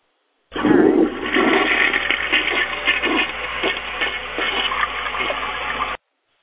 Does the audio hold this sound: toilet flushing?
yes